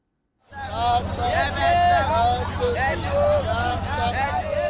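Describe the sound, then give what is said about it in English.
A crowd of hundreds shouts and yells together as it beats two men in the Mokolo neighborhood of Yaoundé, Cameroon: a dense, continuous roar of overlapping voices, with rising and falling cries standing out above the steady babble and a low rumble underneath. “Hundreds of people shout as a crowd beat two men in the Mokolo neighborhood in Cameroon's capital, Yaoundé.”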